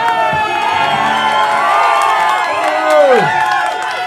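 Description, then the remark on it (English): A crowd laughs and chants a man's nickname loudly and steadily, many voices blending into a dense, continuous roar, with a few whoops and swooping shouts rising and falling near the end. “The crowd are laughing and chanting his nickname.”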